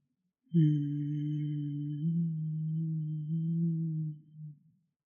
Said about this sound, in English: And it might look like opening your mouth. Let's see if you can keep it internal and keep it as a hum. One more time like this.